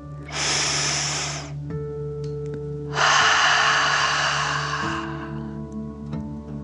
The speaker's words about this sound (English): Breathe in through your nose, filling up your belly, and then out through your mouth, pretending you are breathing fire. Ready? Deep breath in and out.